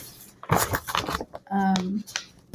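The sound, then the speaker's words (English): Crisp rustling of book pages being flipped through in a few quick bursts while someone searches for a favorite entry, followed by a brief hummed vocal sound and another soft rustle. “Here, I'm shuffling because I'm looking.”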